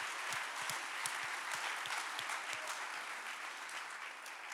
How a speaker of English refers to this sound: We gotta pause for a clap break. Yeah.